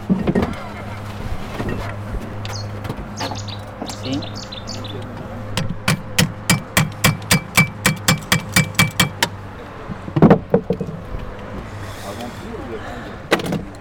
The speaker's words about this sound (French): Et le marteau, celui-là aussi.